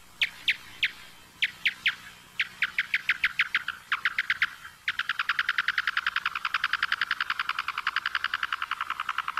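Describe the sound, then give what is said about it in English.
Big brown bat echolocation calls, slowed down by a factor of 16, made as the bat goes after insect prey: a series of chirpy pulses that speeds up steadily, then breaks into a rapid, continuous buzz of clicks. No voices, just the calls alone. “Yeah, so what we're listening to are calls produced by the big brown bat, the local species, and it's going after insect prey.”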